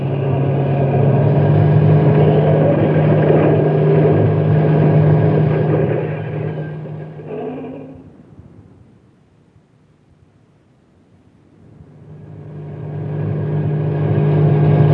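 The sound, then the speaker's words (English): A truck engine roars loudly with a steady low drone as the driver steps on the gas to get out of the park, then dies away to near silence around the middle before revving back up to full strength. No one speaks. “Step on the gas.”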